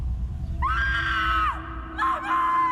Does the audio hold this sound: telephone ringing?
no